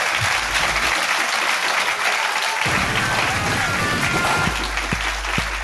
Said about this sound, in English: Ladies and gentlemen, please give a big round of applause to the amazing Catherine Ryan.